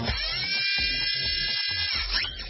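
Mechanical whirring from a bionic vest worn by a worker on a car assembly line: a loud, high-pitched motorized whine that cuts out briefly a few times, then resumes, with no voices.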